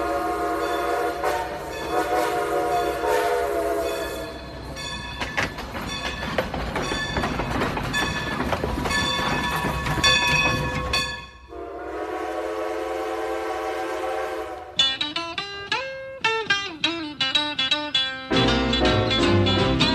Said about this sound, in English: I hear that train a-coming.